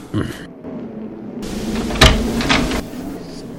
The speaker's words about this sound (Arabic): هاي باب الدار، سأفتح لك الباب.